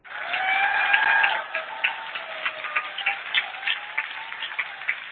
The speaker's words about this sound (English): Indeed, give yourselves one more huge round of applause. Make it loud.